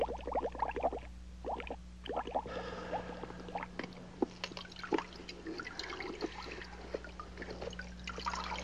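Water pours and splashes steadily onto flowers, a continuous trickling stream with scattered droplet spatters over a low background hum, with no voices.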